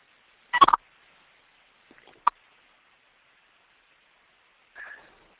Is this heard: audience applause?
no